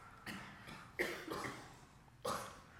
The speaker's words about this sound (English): Everybody's coughing. Everybody feel old or something?